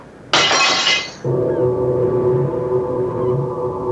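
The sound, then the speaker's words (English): A corked glass bottle is deliberately smashed with a sharp, bright crash and a brief spray of shards, then a low, steady droning tone takes over and hums on to the end. “The moment the bottle broke”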